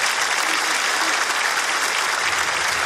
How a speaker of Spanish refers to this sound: Un fuerte aplauso para mi amiga Arequipa, por favor.